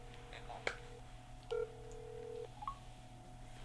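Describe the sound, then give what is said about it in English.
Electronic telephone keypad tones as a phone calls support: a sharp beep, then a longer steady tone lasting about a second, followed by a brief chirp, all over a low constant hum. “Call support. Calling support.”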